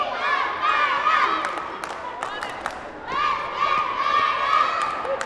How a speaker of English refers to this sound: It's halftime. The squad spills out onto the court to cheer.